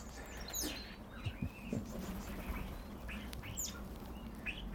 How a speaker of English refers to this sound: That's a wood pigeon landed. I always prefer to describe wood pigeons landing as a jumbo jet landing in a forest with no undercarriage. They crash into things. Literally, they do.